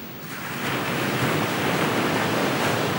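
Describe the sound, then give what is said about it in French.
Ocean waves crash steadily onto the shore, a loud, continuous roar of surf that swells in the first moment and then holds, with no voices present. “Le rivage vibrant sous le coup de vagues répondait à la haute mer retentissante.”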